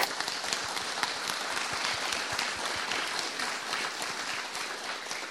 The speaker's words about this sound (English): Why don't we give him a round of applause?